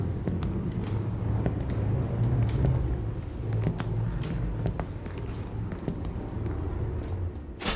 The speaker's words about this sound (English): Left the heat running in the car out front, but you'll still probably want to zip that coat up.